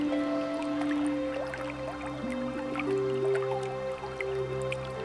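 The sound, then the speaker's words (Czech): A small stream winding around a house trickles steadily, with scattered bright drips and splashes over a continuous low background hum. No one speaks. “Ten potůček se klikatí kolem domu.”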